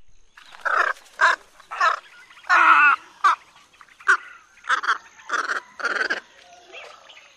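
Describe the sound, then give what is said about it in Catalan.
A squacco heron (Ardeola ralloides) gives a run of harsh, rasping croaks, about ten short bursts in an uneven rhythm, fairly loud, with no voices present. “Martinet Ros és Sardeola Rayoides o no?”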